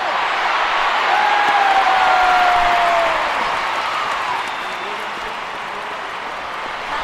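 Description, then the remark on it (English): A large football stadium crowd roars and cheers in a sustained, loud wash of noise as a penalty is awarded for a foul on Lauren James, with a whistle-like tone rising above it before the excitement eases slightly toward the end. “sound of a very happy crowd, a penalty has just been awarded for a foul on Lauren James.”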